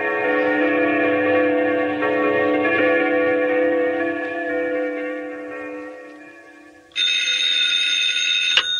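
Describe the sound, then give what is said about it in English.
Bells ring out across the town of Wilkes-Barre, Pennsylvania, as a tribute to a Hollywood movie star, in a sustained, overlapping wash of rich metallic overtones that slowly fades, then a brighter, higher-pitched peal bursts in suddenly near the end. No voices. “Bells ring tribute to Pennsylvania movie star.”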